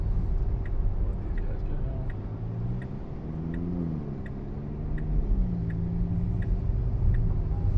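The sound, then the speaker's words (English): A car engine hums steadily from inside the cabin as the driver makes a U-turn at a stop sign, its pitch rising and dipping as the vehicle slowly turns, with the faint rhythmic ticking of the turn signal running throughout. “I'm going to get this U-turn on camera here.”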